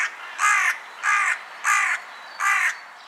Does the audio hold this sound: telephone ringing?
no